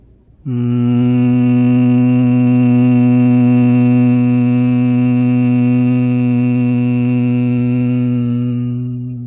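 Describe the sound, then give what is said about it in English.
A single sustained hum from a human voice imitating a bee during Bhramari yoga breathing after an inhale, low and steady, starting abruptly and holding a constant pitch for about nine seconds before slowly fading at the end. “Inhale, humming sound of a bee.”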